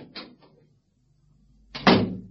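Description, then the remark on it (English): A door is bolted shut: two light clicks, a pause of about a second, then a loud, heavy metallic thud that rings briefly before fading. No one speaks. “I've just bolted the door.”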